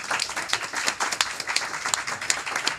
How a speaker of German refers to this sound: Und dem ganzen Hidden Harlequin Team, merci vielmals für die Gastfreundschaft. Ein riesen Applaus, würde ich sagen.